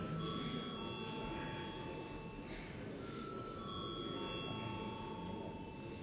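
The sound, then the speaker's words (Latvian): An electric voting bell rings continuously for several seconds in a parliament, called before deputies vote on a bill in its first reading, a steady metallic tone over a low murmur of voices. “Aicinu deputātus atbalstīt pirmajā lasījumā likumprojektu grozījums likumā par sabiedrisko pakalpojumu regulatoriem. Lūdzu, zvanu.”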